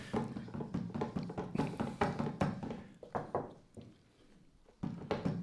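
A chair is knocked over, clattering with a flurry of wooden knocks and thumps, fairly loud, then a brief lull before more knocking resumes.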